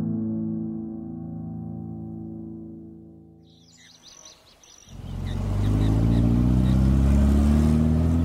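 A car drives across the plains of the Alentejo, carrying ballot papers; its engine hums steadily, fades briefly as a few birds chirp, then surges back as a loud, rumbling drive with a deep, rising roar.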